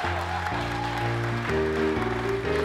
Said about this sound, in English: That's our show for this week, the Lunch Meat Show. Can we give another special round of applause for our special musical guest